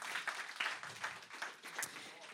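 An audience claps steadily for a couple of seconds, a dense, hissy patter of many hands at moderate loudness with a few sharper claps standing out.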